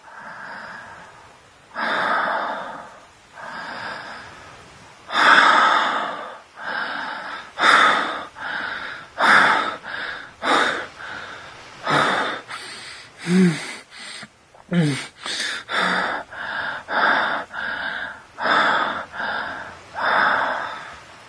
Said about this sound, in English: Our panting gets harder, our breathing gets faster.